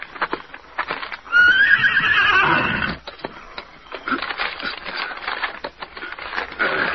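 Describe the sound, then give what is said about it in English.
Scout, a horse with a note fastened to its saddle, whinnies loudly with a wavering, rising-and-falling cry. Then its hooves clip-clop away in a steady rhythm as it is sent off to find the Lone Ranger, continuing to the end with no one speaking. “Now I'll fasten it to your horse's saddle.”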